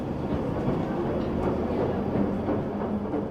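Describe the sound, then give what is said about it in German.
A train travels along the rails from Highbury and Islington station toward Margate, a seaside town in Kent, on a windy morning. A steady, continuous rumble with a dense low-end roar and faint rhythmic clatter, unchanging in loudness throughout. “Vom Bahnhof Highbury and Islington eine Bahnreise von 1,5 Stunden.”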